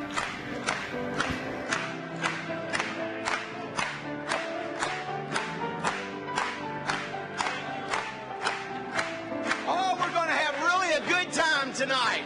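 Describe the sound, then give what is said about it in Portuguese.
An audience at a Portuguese-language Christian worship service claps in a steady, even beat over worship music and singing, and toward the end the voices swell into louder, wavering cheers. “Vamos bater palmas para ele mais uma vez.”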